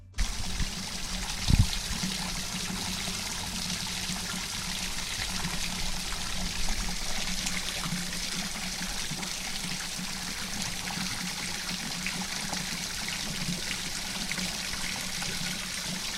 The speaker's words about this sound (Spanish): Fluye el agua por el lavadero del concejo de Letona